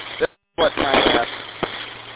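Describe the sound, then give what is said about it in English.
Audio from an FT5 handheld radio transceiver with the correct audio settings turned on: muffled, band-limited voice transmission with a noisy hiss, briefly cutting out to silence before the garbled signal returns. “That's what the FT5 sounds like. With the correct audio settings turned on.”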